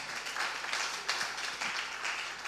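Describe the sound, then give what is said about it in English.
An audience at Last Adam Tabernacle claps for a young lady, a dense wash of many hands forming steady, crackling applause with no clear rhythm, holding at an even moderate level throughout. “Please clap for this young lady.”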